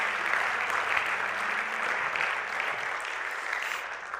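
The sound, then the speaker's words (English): A crowd claps steadily, a dense wash of many hands applauding at once, loud and even throughout with a faint low hum underneath. “Can we give him a hand clap right now?”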